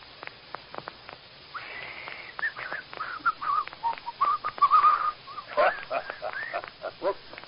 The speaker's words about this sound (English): I just whistled to keep myself company.